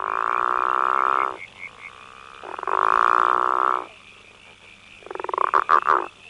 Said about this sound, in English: When females have a choice between two males calling, they tend to select the one that calls at a lower frequency because in frogs, the frequency of a call is related to body size, so the bigger frogs tend to call lower.